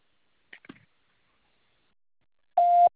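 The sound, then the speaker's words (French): After a brief fragment of trailing speech and a long pause, a single loud, steady electronic tone sounds for a fraction of a second: an answering machine's record beep. “Vous pouvez me laisser un message après le bip sonore.”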